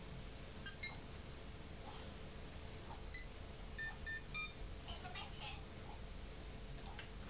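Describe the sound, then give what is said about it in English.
Short electronic telephone keypad beeps sound in small irregular clusters, pressed by a young boy, some in quick succession picking out London Bridge Is Falling Down, over a steady low background hum. “That's not the telephone, that's you.”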